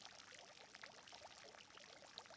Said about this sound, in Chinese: 这里是气泡池，具有缓解疲劳、增强精力的作用。